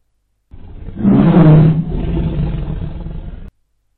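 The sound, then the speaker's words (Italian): A loud, deep tiger roar swells up suddenly and fades into a low, rumbling growl that trails off after a few seconds, with no voices around it; the tiger is about 15 paces away. “Un miagolio formidabile, familiare alle tigri, simile a un ruggito, gli troncò la frase.”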